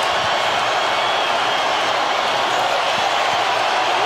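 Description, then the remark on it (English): A huge arena crowd of Denver Nuggets fans roars and cheers as the team wins the NBA championship, a dense, loud wash of voices that holds steady for the whole few seconds with no single voice standing out. “Take your headsets off and just listen to this crowd.”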